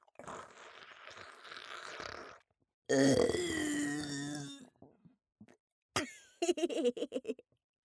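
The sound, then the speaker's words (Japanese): A long, loud, rumbling burp after drinking semen, lasting nearly two seconds, after a stretch of breathy rustling and followed by a few short choppy sounds. “さっき飲んだザーシルゲップ、口からへこいたみたいな激臭臭やっべー、めまいするぐらいにぐっせーの。”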